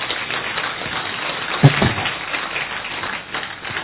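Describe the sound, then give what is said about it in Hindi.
An audience, asked to clap loudly for themselves, applauds steadily for a few seconds, dense overlapping claps forming an even crackling wash with one sharper, louder clap near the middle. “और अगर आपको लगता, हाँ जोर से ताली बजाइए अपने लिए।”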